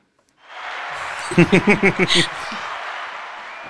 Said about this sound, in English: Yeah, there's a little bit of applause there,